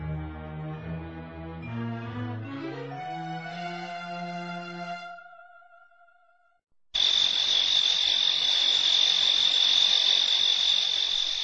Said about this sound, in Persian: هزارها ملخ‌ها به زمین من آمدند. تمام زمین از آنها پوشیده شده است. زمین ما از ملخ‌ها سیاه شده است. آنها همه رستنی‌های را که جاله نیست نکرده بود خورده استادند.